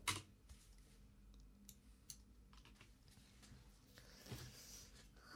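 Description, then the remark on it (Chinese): Rapid, uneven clatter of keys being struck on a computer keyboard, with scattered sharper clicks over a low background hum. Fairly quiet, with no voices. “打字的声音太大，会被我爸妈听到的。”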